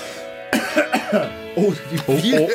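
Someone close by clears their throat several times in a row, a series of rough, gruff bursts with brief pauses between them and no spoken words.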